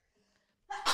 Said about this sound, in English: I have to sneeze.